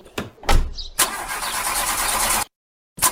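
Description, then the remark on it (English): A car engine cranks over and over without catching, a few short grinding attempts followed by a longer sustained crank that cuts off abruptly into silence, then another brief try. “Come on, man. Alexa, fix my car.”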